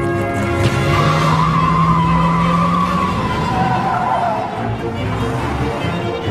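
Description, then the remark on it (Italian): Car tires screech loudly in a sustained, wavering squeal as a red Charger swerves through a turn onto Glenby Street, its engine roaring underneath, with the skid lasting several seconds before easing off. “Imbocchiamo Glenby Street per evitare il traffico di quelli che vanno in chiesa, perché quelli guidano troppo piano.”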